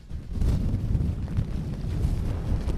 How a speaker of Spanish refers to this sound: Se oye más el viento, surcando el mar, ¿eh? Se oye más el viento, pero nos imaginamos.